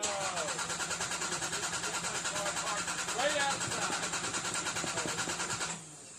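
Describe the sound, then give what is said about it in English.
A car engine cranks over and over in a steady, rapid chugging rhythm for several seconds without catching, then cuts off. Faint voices can be heard over the cranking. “your car's not starting.”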